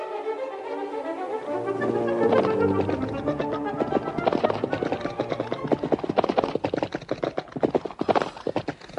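Two horses gallop along with a fast, driving rhythm of hooves clip-clopping, dense, the beats growing sharper and more distinct toward the end. No voices are heard.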